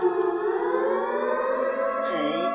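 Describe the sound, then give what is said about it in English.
A loud, sustained siren from a newly built alarm for when Glimbus comes by wails with strong stacked harmonics, its pitch holding steady before dipping and wavering near the end, with no talking over it. “You see, I got this new alarm built when Glimbus comes by.”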